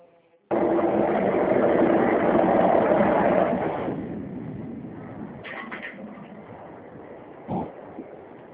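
A washing machine running: a loud, steady churning whir starts abruptly, then settles into a softer continuous hum, with a couple of brief clunks near the end.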